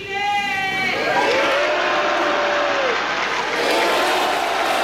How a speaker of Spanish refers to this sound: Ahora sí, viva Chile, grita una persona en la grada que es respondido por todo el Salón de Honor con un aplauso.